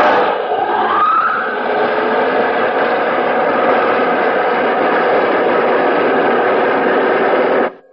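spaceship jet dynamos humming

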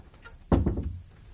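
door being shut

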